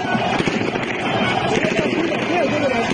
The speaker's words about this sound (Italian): Questi sono i cori, gli spari, i clacson, i rumori della folla festante in Siria dopo la caduta del regime di Assad.